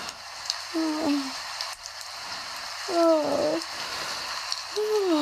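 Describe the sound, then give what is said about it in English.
Steady, soft hiss of rain falling outside fills the background, joined three times by short, wavering mewing sounds. “I've got the rain outside as well.”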